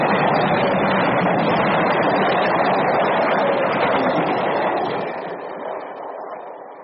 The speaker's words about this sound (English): I can hear the train. I can hear the train.